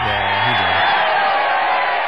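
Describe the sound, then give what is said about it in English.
A loud burst of crowd applause and cheering played as a sound effect, a dense steady roar of clapping with a voice whooping over the first second, lasting about two seconds. “You play, dude, applause.”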